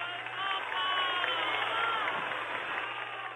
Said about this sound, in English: And was accompanied by volleys of clapping and shouts of Viva el Papa.